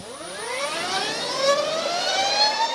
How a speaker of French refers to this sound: C'est celui d'une moto électrique qui s'élance, la première Harley Davidson électrique. C'est la Livewire.